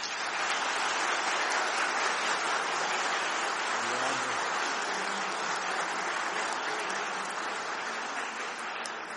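A crowd claps in a dense, steady round of applause at a ceremony in the municipal legislature of Sarandi marking 10 years of SGI Day, holding at an even loudness for about nine seconds before easing slightly at the end.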